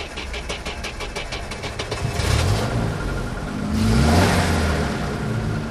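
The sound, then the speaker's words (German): An old-timer car engine cranks with rapid rhythmic clicks, catches, and revs up twice in strong rising surges, loud, then settles into a rough rumbling idle. “Er hat keinen Zweifel daran, dass uns der Oldtimer 2000 Kilometer zurück nach Berlin tragen wird.”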